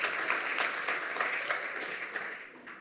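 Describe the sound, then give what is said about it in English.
A crowd applauds a presenter who has just finished a lightning talk in 2 minutes and 29 seconds: dense overlapping claps at a moderate, even level that gradually taper off toward the end, with no speech over them. “So give him a round of applause for that.”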